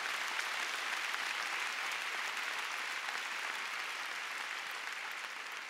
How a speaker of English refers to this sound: Come on, let's give the Lord a big clap. Hallelujah.